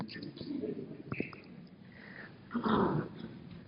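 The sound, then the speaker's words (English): A dog growls low, its rumbling broken by a few short whimpers, then a louder, rougher burst of growling near the end before it tapers off. “You know, we've got a great dog at our house. He doesn't listen to nothing, but he's still nice to talk to him.”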